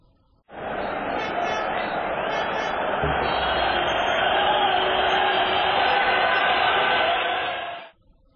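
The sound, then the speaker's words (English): A large crowd at a football match, watched on television, roars steadily, a dense wash of cheering and chanting voices that holds at a constant loud level for about seven seconds before cutting off. “No, they're not moving furniture, they're watching football.”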